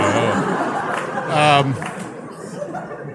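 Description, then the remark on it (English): A steady murmur of many overlapping voices in crowd chatter, with no words clearly distinguishable. One louder voice briefly rises above the babble midway through before the hubbub settles back. “Is this the crowd from The Shining picture? This is really has a haunted quality to it.”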